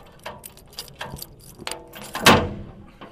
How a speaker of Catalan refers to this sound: Obrim una petita porta de ferro situada a la torre del campanar de Santa Maria de Vilafranca.